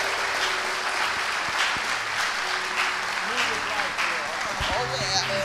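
Sustained applause from a large crowd, dense steady clapping with cheers and whoops rising through it, holding loud for several seconds.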